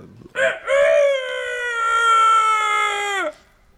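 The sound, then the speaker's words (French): In an animal-imitation guessing game, a person imitates a rooster's crow: a short rising note, then one long, loud, strained call held on a steady pitch before dropping off at the end. “C'était le coq.”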